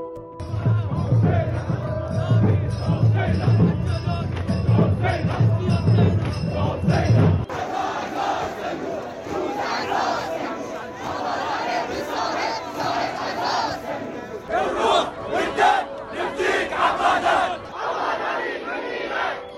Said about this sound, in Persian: بخشی از شعارهای آبادانی‌های معترض را شنیدید.